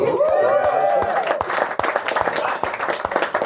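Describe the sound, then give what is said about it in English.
A crowd breaks into steady applause for a couple married 22 years, a dense patter of many hands clapping at once, with a rising cheer or whoop over the first second before the clapping carries on alone. “All marriage year numbers get applause.”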